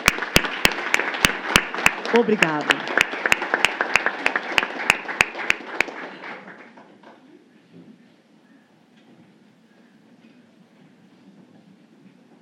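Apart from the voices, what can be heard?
audience clapping hands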